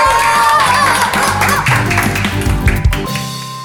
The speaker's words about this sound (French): Ah ouais, on peut l'applaudir. Ouais, bravo.